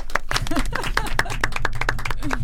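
A small group applauds at the opening of the radio show Salottino Room on Radio UniMC, with quick, uneven claps throughout, fairly loud and steady, over a low constant hum, with a brief vocal whoop or two mixed in.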